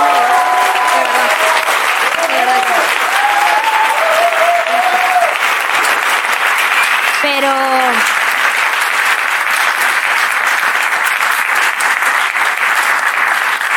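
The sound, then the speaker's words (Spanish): An audience applauds loudly and steadily for about fourteen seconds, a dense unbroken wash of clapping, with a few voices whooping and calling out above it early on and midway. “Mientras más aplaudo me pongo más nerviosa, pero no pasa nada, ¿eh?”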